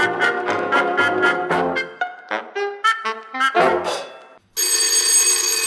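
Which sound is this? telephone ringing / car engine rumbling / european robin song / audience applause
telephone ringing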